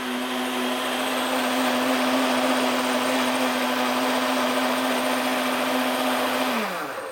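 A vacuum blender under pressure, set on high and blending carrot soup, whirs loudly at high speed with a steady motor hum, running continuously for several seconds before the pitch drops as it begins to wind down at the end.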